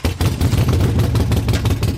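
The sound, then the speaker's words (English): The stock exhaust of a Harley-Davidson Sportster motorcycle growls loudly, its deep rumble pulsing in an uneven, loping "potato-potato" rhythm of rapid thumps for two seconds, with no one talking. “Notice that classic growl, what riders call the potato-potato coming out of the exhaust.”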